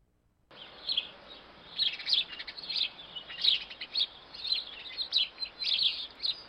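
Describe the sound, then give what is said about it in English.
A house sparrow chirps repeatedly in quick, uneven bursts of bright, high-pitched notes, steady over a faint background hiss, with no voices. “That's the common sparrow, the humble sparrow, something you might have heard every day when you're walking down the street in Vancouver.”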